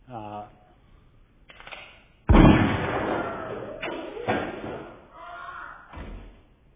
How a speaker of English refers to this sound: And now I'll go back up while this is playing and fire our... no, let's not do that one. Fire our gunshot again.